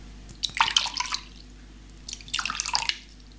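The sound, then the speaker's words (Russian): Liquor poured into glasses in two short splashy bursts, with a brief pause between the pours and no talking. “Наливай.”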